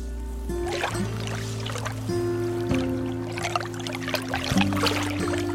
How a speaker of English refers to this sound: Beyond the house is Tamales Bay. The waves gently lap against the shore, and you can see the town of Marshall across the bay